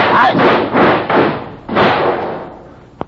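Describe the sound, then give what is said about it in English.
An old car's loose door, held on with rubber bands, comes off again while the car is stopped to fix a flat tire. It clatters and scrapes as it falls away, a run of loud metallic bangs and rattles that fade out, then one sharp knock at the end. “Door come off again.”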